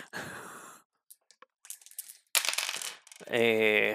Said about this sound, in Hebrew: זה 3 קוביות. וואו, שאני אגלגל או שאתם? אתה.